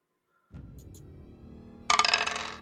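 A soft low rattle of dice being shaken gives way to a bright clatter of dice tumbling and skittering across a table during a game, fairly loud, with no talking.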